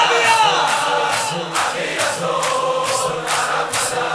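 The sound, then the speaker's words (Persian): A large crowd shouts loudly and continuously, the massed voices punctuated by sharp rhythmic beats roughly twice a second, with no single voice standing out. “فریاد بزن عقبی ها.”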